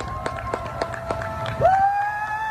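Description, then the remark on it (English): Steady rhythmic clapping or banging echoes across a street in downtown Manhattan, New York, at 7 p.m., the start of a two-minute cheer. It is joined by a long whistle-like tone that rises partway through, with faint, spread-out crowd noise. “That's how they began the two-minute cheer.”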